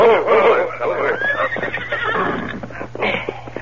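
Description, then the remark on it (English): Several horses whinny and snort as three men rein up in front of the Derrick ranch house, their loud, wavering neighs overlapping for a few seconds, with a faint clatter of hooves and a steady low hum underneath. “Soon the three men reined up in front of the Derrick ranch house.”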